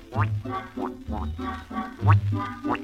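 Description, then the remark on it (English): A rapid run of nasal, duck-like quacks, about eight short bursts in a steady rhythm, loud. It sounds like a human voice imitating a duck quacking as part of a song's chorus. “Let's all be birds of a feather and quack out this chorus together.”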